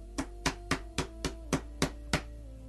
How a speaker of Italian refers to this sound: io sto alla porta e busso. Se qualcuno apre la porta, io entrerò da lui e cenerò con lui ed egli con me. Gesù sta bussando.